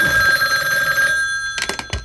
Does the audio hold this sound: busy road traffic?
no